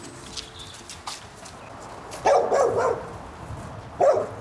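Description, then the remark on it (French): A dog barks in a short burst of rapid yelps, followed by a brief pause and then a single bark, at a sheep farm in the Parc de la Courneuve near Paris, France, with faint clicks and shuffling in the background. “Je vais mettre le chien dans la maison.”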